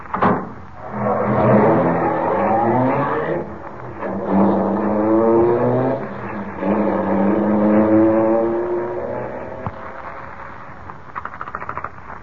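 A car engine revs and pulls away, its pitch climbing through three successive gear changes. The engine sounds steady in volume, with no voices, and a few faint clicks at the end.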